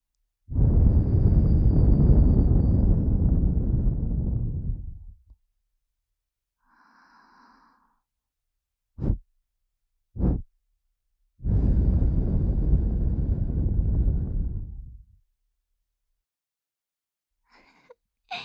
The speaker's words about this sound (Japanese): どうです？びっくりしました？風放りからの吐息攻撃に思わず驚いたことでしょう。